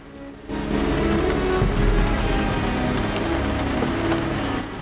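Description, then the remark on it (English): Heavy rain pounds steadily on a car windshield at night, a dense drumming that swells in after a brief quieter moment and stays loud throughout, with no voices. “Rain beats down onto the windshield under the night sky.”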